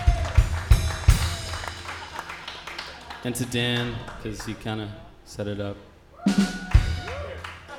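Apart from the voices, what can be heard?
audience clapping and applause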